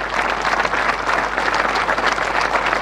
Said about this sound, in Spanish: Un gran aplauso para Gabriel Catopodis, claro que sí.